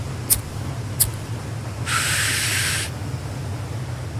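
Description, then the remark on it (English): A voice imitates a sea turtle laying eggs near a stoner on 420: two sharp clicks, then a steady, breathy hiss lasting about a second, over a constant low hum. No one speaks. “This is a sea turtle laying eggs near a stoner here for 420.”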